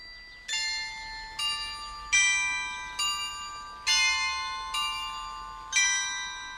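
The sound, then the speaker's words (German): The glockenspiel of tuned bells on the 17th-century half-timbered town hall of Königsberg, on the market square, chimes a slow melody, seven ringing strikes about a second apart, each tone sustaining and decaying into the next, with no voices present. “So klingt das Glockenspiel am Königsberger Rathaus, ein Gebäude aus dem 17.”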